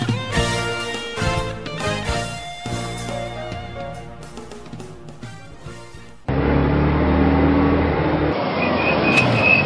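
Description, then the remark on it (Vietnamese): Upbeat music gives way abruptly to loud vehicle noise, ending in a sharp high-pitched squeal of brakes as a vehicle stops suddenly right beside a person. “Chứ ai nữa sát bên mà thắng cái tôi hết hồn quá vía.”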